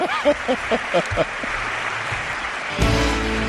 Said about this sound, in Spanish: Normalmente cuando presentamos a alguien, se presentan y se le aplaude.